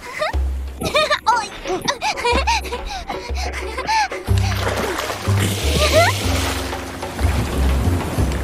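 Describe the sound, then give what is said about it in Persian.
Ocean water sloshes and splashes against the side of a boat, a steady washing noise that swells in the second half, with excited voices and brief laughter over it. “نگاه کن رودیوس اوکیانوس.”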